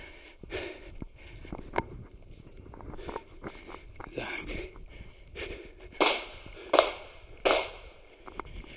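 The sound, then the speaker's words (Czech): Gunshots from a busy shooting range beside a path crack out as several sharp, irregular reports, a few coming in quick succession near the end, over footsteps and breathing outdoors. “Dneska je tady nějak živo na té střelnici teda.”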